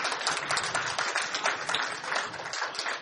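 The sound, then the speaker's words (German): Steady audience applause greeting the people watching along remotely, a dense wash of many hands clapping at once with no pauses, fairly loud and even throughout, with no voices standing out. “Klatsch doch mal auch für die, die jetzt gerade zuschauen.”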